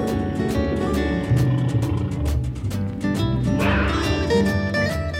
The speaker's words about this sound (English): What do I hear now? Such a scary growl. It's a big cat with stripes down his back.